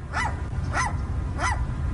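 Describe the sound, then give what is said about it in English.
A seagull gives three short, sharp yapping calls, evenly spaced about half a second apart, sounding much like a small dog barking, over a steady low rumble of background noise. “So this guy's filming this seagull, and it sounds... It sounds like a little chihuahua.”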